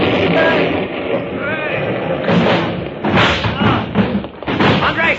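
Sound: explosion and collapsing wall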